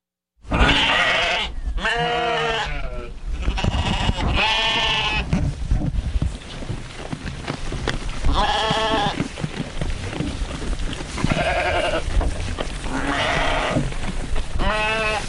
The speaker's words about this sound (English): That's the sound of 16 sheep at supper time, all gnashing away, trying to eat as much as they possibly can before the others do.